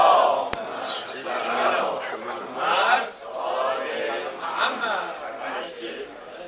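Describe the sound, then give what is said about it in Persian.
On the eve of Friday, a large crowd chants a salawat blessing together in loud, sustained unison, voices rising and falling in rhythmic waves for several seconds, with a sharp click near the start. “شب جمعه است، یه صلوات دیگه خط بفرمایید.”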